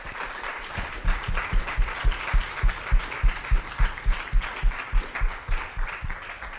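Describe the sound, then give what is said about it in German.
An audience applauds loudly, the claps quickly settling into a steady, rhythmic unison beat that continues throughout, with a broad wash of crowd noise underneath and no one speaking. “Also das ganze Team hat sich mal einen riesen Applaus verdient.”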